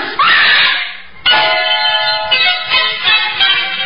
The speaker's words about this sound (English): The mother had reason to scream.